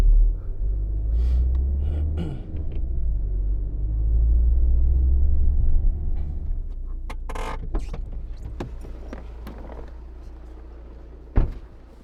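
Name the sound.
car engine running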